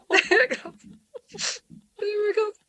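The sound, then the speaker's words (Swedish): Someone cries and whimpers in short, shaky voiced bursts, then a sharp breathy sniff, then a drawn-out wavering whimper. “Jag gråter nu.”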